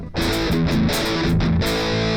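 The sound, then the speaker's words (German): A loud, fuzzy distorted electric guitar plays chunky riffs through an amp, with dense saturated tone in an old-style distortion and short rhythmic breaks between phrases, without any voices. “Oh, das macht diese sehr fassige Verzerrung, die es damals halt gab.”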